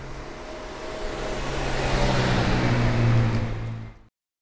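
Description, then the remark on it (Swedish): A Citroën 2CV drives past on the street, its small boxer engine buzzing with a low, steady hum that swells to a peak around the middle and then fades before cutting off abruptly. “Och ljudet från en passerande 2CV går inte att ta miste på.”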